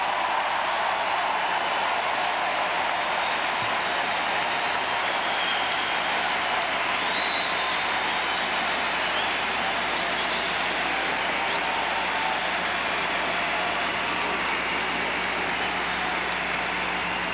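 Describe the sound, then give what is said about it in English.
A large crowd in a hall cheers and applauds steadily in response to a speech, a dense, even wash of clapping and shouting that holds at a constant, fairly loud level throughout with no voice speaking over it. “You cheer now because you know this is true.”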